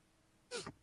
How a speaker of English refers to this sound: Uh-oh, I'm going to sneeze.